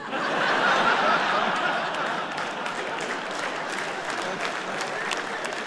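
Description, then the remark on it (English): A crowd at a show, mostly men, applauds steadily for several seconds, a dense wash of clapping that starts loudest and eases slightly, with a few scattered chuckles mixed in. “Just men applauding that.”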